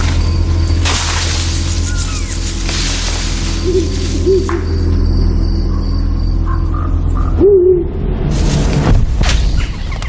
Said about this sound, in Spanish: no sé si sabes que el gran búho gris es un animal fascinante, ¿eh? Tiene el disco facial más grande de todas las aves.